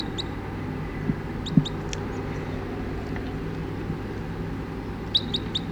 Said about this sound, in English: 20 crossbills just sat down in the trees here and it's about 9 o'clock now